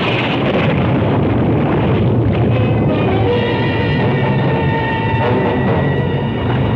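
storm wind

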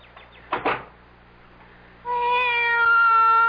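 cat meowing

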